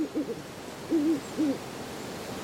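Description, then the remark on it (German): An owl hoots in a short series of soft, low calls, the clearest ones spaced about half a second apart, in a quiet nighttime setting with no one speaking. “Einige Zeit später weckt dich das Rufen einer Eule.”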